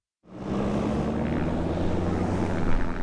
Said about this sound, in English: Small airplanes line the runway on a windy day at the Bessemer Airport.